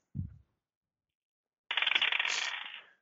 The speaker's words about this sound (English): So I will rattle the cupboard door again, and then I'll try to just bust it open.